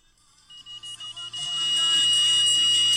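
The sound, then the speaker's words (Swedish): A car's front proximity sensor warning sounds while the car is in a queue: high-pitched beeps quicken over about a second, then merge into one loud, steady tone that holds to the end. No one speaks. “Så det låter konstant som att det är någon som är för nära bilen.”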